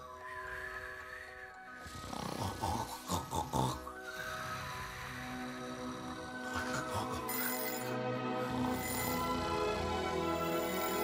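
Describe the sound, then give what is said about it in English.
A little turquoise alarm clock rings in the morning with a bright, sustained electronic tone that grows steadily louder, broken early on by a few quick rhythmic pulses. No one speaks. “The little turquoise alarm clock goes off, as it does every morning of his get out of bed, good, better, best, never let it rest life.”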